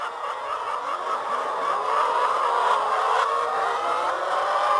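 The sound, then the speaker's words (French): A dense, steady chorus of many laying hens clucking and murmuring together inside a tall laying-hen house with perches on an organic poultry farm, with a constant mechanical whir underneath and no talking. “Là, le principe d'un bâtiment de pondeuse, une poule s'adore percher.”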